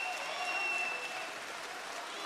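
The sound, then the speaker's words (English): A crowd claps and cheers steadily throughout, a dense, continuous wash of applause with a few high whistles or shouts ringing over it, holding an even loudness for the whole stretch. “Listen to the cheers, folks.”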